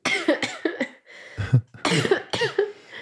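A person with a summer flu coughs repeatedly in harsh bursts, a quick cluster of short coughs followed by a brief pause and then several more forceful hacking coughs.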